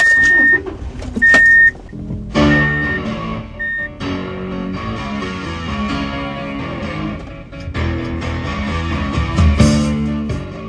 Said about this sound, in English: If you got in your car in downtown L.A. and headed south towards Anaheim in moderate traffic